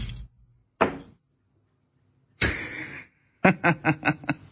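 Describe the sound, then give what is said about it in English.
A couple of dull knocks, a brief scraping rustle, then a quick run of light clattering taps as a pair of eyeglasses is knocked off, drops and bounces to rest. No one speaks. “I just knocked my glasses off for the radio viewers.”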